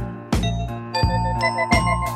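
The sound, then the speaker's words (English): A doorbell chime rings out in a clear ding-dong pattern, with three bright struck tones about a second apart, each leaving a sustained, ringing resonance. No one speaks. “Somebody's ringing the bell.”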